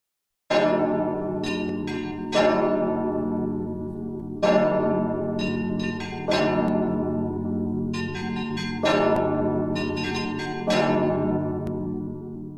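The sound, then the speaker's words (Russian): A church bell tolls six times in the evening in slow, steady strokes, each deep clang ringing on and overlapping the next, loud with no voices. “А когда настал вечер, и церковный колокол пробил 6 раз, мистер Туми пробубнил, что вот, мол, покою нет от этого трезвона, и отложил в сторону работу.”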